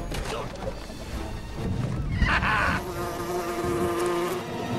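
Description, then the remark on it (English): A small passing insect, which Goku flicks into his grandfather's mouth, buzzes past in a steady, mid-pitched drone that wavers slightly, with a brief rushing swish partway through and no voices. “As his grandfather rights himself, Goku flicks a passing bug into the old man's mouth.”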